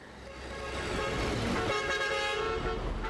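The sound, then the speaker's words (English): Several car horns honk over a steady rumble of bumper-to-bumper road traffic in Manila, heard while riding in a minivan, the sustained tonal toots overlapping and swelling louder midway before holding steady to the end. “2 weeks later, and more than 7,000 miles away, I'm riding in a minivan through the notoriously bumper-to-bumper traffic in Manila”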